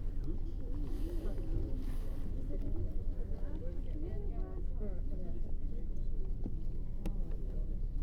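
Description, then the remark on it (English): Steady, heavy low rumble inside a London Underground Piccadilly Line train carriage, continuous, with indistinct voices murmuring over the noise throughout. “This is the Piccadilly Line train to Harrow and Wiltshire.”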